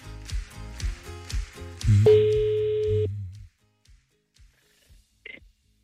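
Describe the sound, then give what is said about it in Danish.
A single steady electronic telephone ringing tone, about a second long, follows a few rhythmic thumping beats, then near silence as the outgoing call waits to be answered. “Så vi siger ikke navnet, nu ringer vi bare op, og så håber vi på, at telefonen bliver svaret.”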